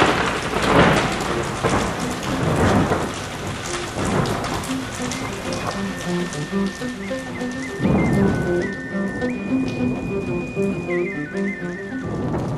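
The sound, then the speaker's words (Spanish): Steady rain pours down in a storm in Tenochtitlan, with broad bursts of thunder rolling in, including a loud rumble near the start and another around the middle, while a faint melodic tone line runs underneath. “Mira, mejor vamos a taparnos de la tormenta debajo de esos árboles, ¿no?”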